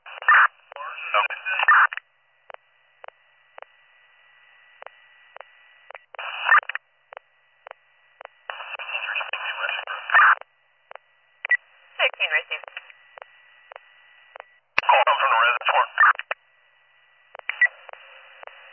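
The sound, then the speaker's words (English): Harsh, warbling electronic bursts come through a narrow telephone line in uneven spurts, with a faint steady tone underneath and sharp clicks between them, like a fax machine answering, heard when calling back a VoIP number after a 911 call. “We tried to call back and it went to a fax like sound over the phone.”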